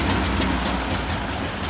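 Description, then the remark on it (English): A car engine, finally started, runs at a steady idle, a continuous low rumble with a rough mechanical texture that holds an even level throughout, with no voices. “Well, sounds like Murphy has finally got the engine running.”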